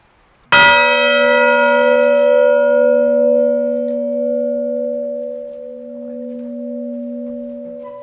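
A single church bell, rung manually at 11:05, strikes out loud, then its deep tone hums and slowly fades over several seconds, with no voices present.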